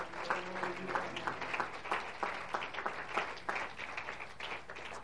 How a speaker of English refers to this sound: Would you clap once again as you're seated under the Lord?